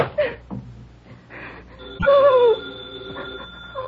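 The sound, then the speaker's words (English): A telephone on a four-party line rings in one loud, bright burst partway through, its tone lingering faintly afterward, with soft shuffling and scattered noises before and around it. “The phone kept ringing. And ringing.”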